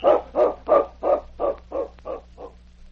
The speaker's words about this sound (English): It was several hours later when Sergeant Preston, who was sleeping in the cabin of the constable at Upper LaBarge, was awakened by barking and scratching at the cabin door. What's that? Sounds like my dog King